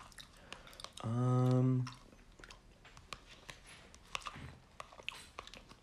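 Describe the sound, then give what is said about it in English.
Soft, wet chewing of a microwave dessert and mouth clicks repeat irregularly, broken early on by a loud, sustained hummed voice for about a second before the quiet chewing resumes. “What other microwave desserts are there that are that good?”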